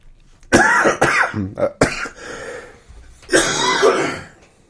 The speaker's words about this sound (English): I only got 2 cough draw slips, so I'm trying to ration them out, so I'll save one for the main show. So forgive the coughing in the pre-show.